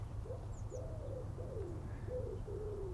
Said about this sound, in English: And wood pigeons and collar doves. The two most stupidest birds on earth. But I wouldn't be without them.